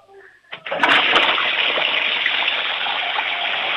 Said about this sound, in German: Ich möchte die Klospülung natürlich hören, weil das wollen ja alle herzeigen in dieser Sendung. Ich hoffe, ihr habt eine laute Klospülung.